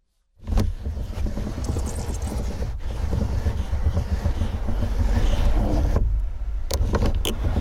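A car window being cranked by hand, a loud, continuous grinding and rattling with a rhythmic texture, briefly pausing twice before carrying on. No one speaks.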